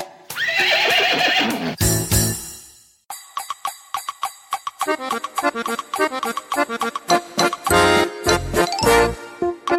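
A horse whinnies loudly for a couple of seconds, followed by a burst of noise and then a steady jingling, clip-clopping rhythm of hooves and bells, with no talking.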